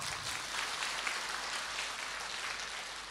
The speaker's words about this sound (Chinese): 鼓掌